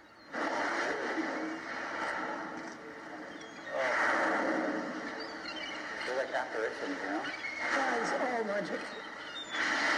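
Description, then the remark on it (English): Mournful calls of whales at their hunting spot moan and sweep up and down in pitch, rising in long swells over a steady underwater wash, fairly loud and continuous for the whole stretch. “We've been listening to these beautiful mournful calls for 15 years now, and we've been able...”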